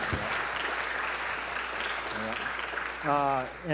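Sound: audience clapping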